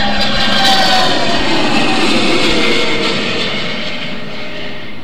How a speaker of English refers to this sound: That, my friend, was a flyover of jet fighter planes from Lackland Air Force Base.